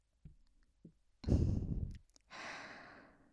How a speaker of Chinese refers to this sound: 以你现在喘息的速度，说不定我再摩擦一会儿，就直接射出来了呢。